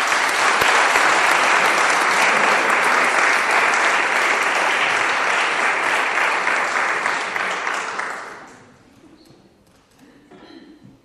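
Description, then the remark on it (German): A church audience claps steadily to welcome a newly baptized member, a dense, loud wash of applause for about eight seconds, then it fades out quickly, leaving faint background noise. “Und wir heißen dich herzlich willkommen mit einem großen Applaus.”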